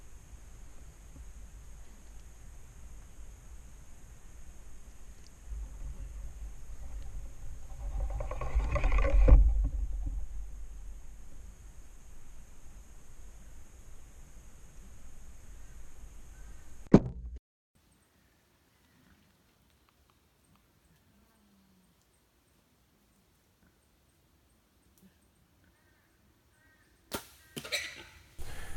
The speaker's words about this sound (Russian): Я делаю выстрел. Видео покажем.